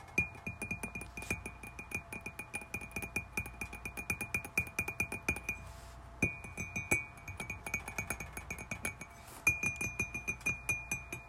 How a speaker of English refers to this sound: So I'm gonna tap. Hopefully you can hear it.